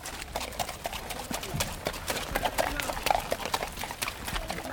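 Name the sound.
horses' hooves clip-clopping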